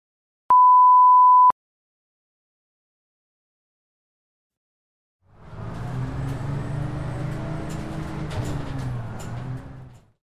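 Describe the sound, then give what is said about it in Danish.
A short electronic beep, a few seconds of silence, then steady ambience inside a bus riding home from school: a low engine rumble and droning hum, with occasional light rattles and clicks, continuing to the end. “mens de sidder på bussen hjem fra skole og taler om bæredygtighed.”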